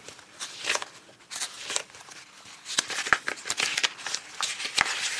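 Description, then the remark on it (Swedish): Paper rustling and flicking as someone digs deeper into a pile of sent-in entries to find number 19, with repeated crisp swishes and short snaps at an irregular pace, without talking. “Nu får du gräva lite djupare i högen. Bläddrar klar här.”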